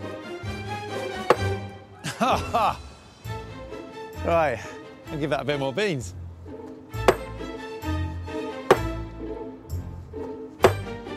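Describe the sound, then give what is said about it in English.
A hammer strikes a granite block in several sharp, hard knocks spaced a second or more apart, each ringing briefly and the hammer almost bouncing back off it, in a test comparing granite with sandstone, with a man talking between the early blows. “The hammer's almost bouncing back off it.”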